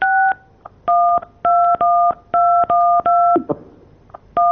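A telephone number is dialed with DTMF tones to call back a guest: about ten short, bright two-note beeps in a quick, steady rhythm, with brief gaps between them and no voices.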